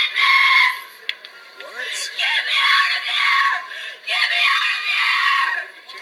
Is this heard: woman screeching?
yes